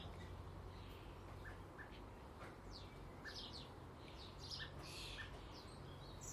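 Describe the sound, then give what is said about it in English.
Quick, high chirps and short calls from blackbirds chasing each other in high-speed aerobatic pursuit in a garden, flying through trellis panels of 4-inch squares, burst out repeatedly over a steady low rumble, coming in scattered clusters with no speech. “I'm glad that the blackbirds are so aerobatic in high speed pursuit.”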